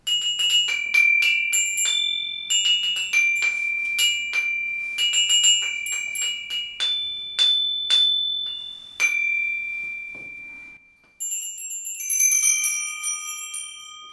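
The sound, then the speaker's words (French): Church bells ring out an Easter carillon, a rapid cascade of bright, overlapping strikes with long ringing tones, pausing briefly before a final flurry of higher, shimmering peals. “Voici leur joli carillon pour vous souhaiter joyeuse Pâques.”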